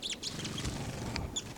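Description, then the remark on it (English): A caged bird, number 306, calls with high, thin chirps and short tweets, several sharp notes scattered over a steady background hum, with a few other soft chirps mixed in. “And 306 is calling,”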